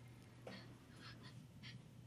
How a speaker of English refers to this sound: Scared child.